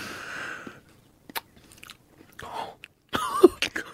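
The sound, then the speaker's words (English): Crunchy chewing of hokey pokey chocolate, with a handful of crisp, irregular crunches and brief pauses between bites, loud, with no talking. “Crunchy. That's the hokey pokey.”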